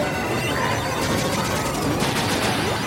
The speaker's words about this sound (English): That gunfire sounds familiar. Is that Contra?